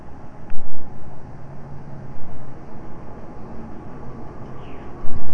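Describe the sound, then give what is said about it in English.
A car passing outside: a steady low rumble with a broad hiss of road noise that swells slightly at times, with no voices. “I hear a car outside.”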